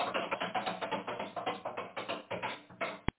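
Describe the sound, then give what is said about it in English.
A spinning prize wheel ticks rapidly past its pegs, a steady run of clicks that gradually slows and ends in one sharp final click as it stops. “I'm so excited, I'm going to spin the wheel. Around, around she goes, and where she stops, nobody knows.”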